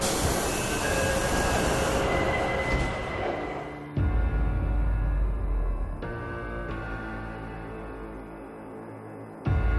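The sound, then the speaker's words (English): A subway train runs into Shahid Hemadi Station with a loud, steady roar and high metallic whining from the wheels, the sound shifting abruptly a few times. No one speaks. “Shahid Hemadi Station. Oh, here, I have to get off the train.”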